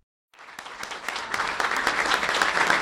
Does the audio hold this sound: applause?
yes